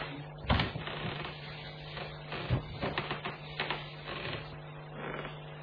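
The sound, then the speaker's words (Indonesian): Slow footsteps climb a staircase toward a bedroom, a handful of soft, uneven thuds spaced a second or so apart over a constant low hum, with no one speaking. “Sampai mataku kembali terbuka ketika terdengar suara langkah kaki perlahan naik menuju kamarku.”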